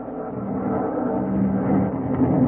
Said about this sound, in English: The plane bumped the ground and rolled in. But we kept the motor still running in case of a Jap trick.